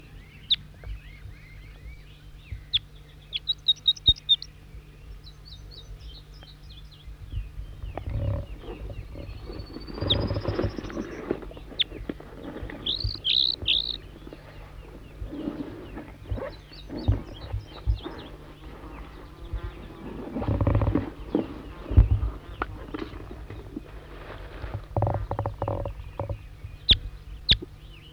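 A wild bird sings short, high-pitched chirping phrases, repeated several times with pauses between them, responding with the same song phrases, over a steady low rumble and scattered thumping noises.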